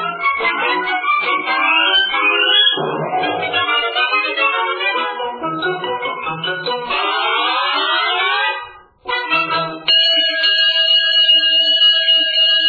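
A loud, busy alarm sound effect of warbling, sweeping electronic tones that breaks off briefly, then returns as a steady, piercing chord of held tones. No one speaks.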